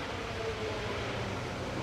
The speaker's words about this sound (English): Some motorbikes going down the hill as well.